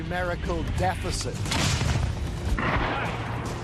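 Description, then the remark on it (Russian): Two heavy Russian artillery shell impacts boom one after another, the Russian guns answering, with the shells landing about 600 metres away; deep, rumbling blasts with a broad roar, following a brief stretch of people talking at the start. “Эти два звука удара — ответ русских пушек.”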